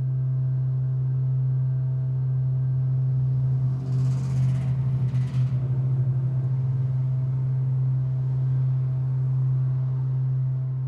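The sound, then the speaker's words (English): A loud, steady low-pitched hum drones without pause, thick and enveloping, in an alley next to a parking garage on 6th Street in downtown Louisville. Around the middle, a couple of brief hissing bursts, like a passing vehicle, rise over the constant machinery drone. “I was walking down 6th Street downtown one day, and as I passed the alley next to a parking garage, I was enveloped and entranced by this huge hum.”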